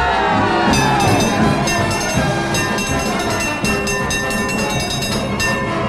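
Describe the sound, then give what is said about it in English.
A cable car rumbles and clatters steadily, with metallic screeches, rattling and bright ringing tones layered over a continuous low rumble, loud throughout the six seconds. “That cable car's been running ever since.”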